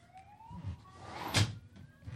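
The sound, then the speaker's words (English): A car alarm wails from Vermont Boulevard outside, its rising electronic tones sweeping repeatedly, with a brief sharp burst of noise partway through. “it's live kill radio with someone's car alarm in the background”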